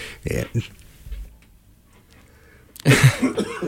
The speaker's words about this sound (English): No, I'm still coughing.